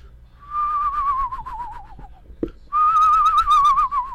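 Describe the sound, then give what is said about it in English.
A person imitates a screech owl's warbling trill, made with a little spit at the back of the throat: two fairly loud runs of quavering, whistle-like tone, the second stronger, separated by a brief pause and a small click. “I'll do a little imitation for you.”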